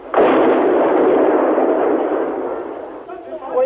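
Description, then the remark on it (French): A loud explosion bursts in suddenly and rolls on as a heavy, sustained roar for nearly three seconds before easing off, with a second explosion's rumble starting to swell right at the end, the two blasts shaking the walls. “Elles ont raison, 2 nouvelles explosions font trembler les murs.”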